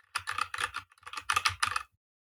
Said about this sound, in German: Ach, so geil, Felix seine Tastatur. Also, ja, so eine schöne mechanische Tastatur.